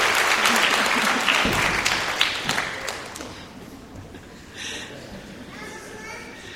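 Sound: audience clapping hands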